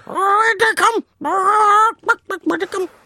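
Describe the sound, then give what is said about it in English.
A person vocally imitates a chicken, giving drawn-out squawking calls followed by a quick run of short, choppy clucks, loud with no other sounds. “Stop clucking at me.”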